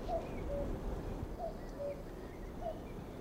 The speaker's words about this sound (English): Is that a curlew beginning? It sounded like... Oh, it was a cuckoo. It was a female cuckoo.